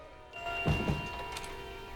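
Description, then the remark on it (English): The back door of a home is eased shut, landing as a soft, muffled thunk followed by a faint second knock, over a low, steady hum with no voices. “He shuts it quietly behind him.”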